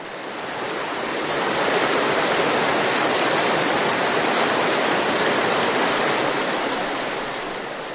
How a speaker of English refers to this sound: Most of the time, we paddle smoothly over the Potomac. But sometimes the river is wild.